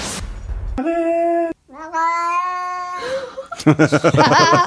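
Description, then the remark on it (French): A cat grumbling at its owner lets out a string of loud, drawn-out meows, complaining in whiny tones, its cry echoing the owner's French word "arrête", ending in a wavering, grumbling yowl. “c'est une vidéo TikTok où il y a un chat qui râle sur son maître”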